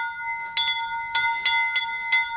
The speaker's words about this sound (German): Auf dem Gutshof steht ein Glockenturm, nicht besonders hoch, aber weithin zu hören.